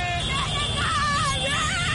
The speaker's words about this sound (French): Objectif, saluer les champions d'Afrique à leur manière. Parade de centaines de mototaxis. Concert de klaxons. Chants de supporters. Ou plus simplement, cris de joie.